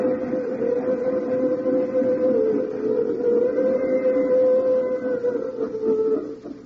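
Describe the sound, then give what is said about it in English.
A freight train in the United States rumbles past on its way in a steady, loud drone, with a sustained horn-like whine riding over the low roar of wheels and cars for several seconds, no voices. “And hear that? That's another freight train on its way.”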